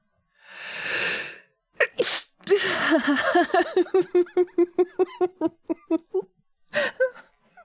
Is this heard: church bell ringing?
no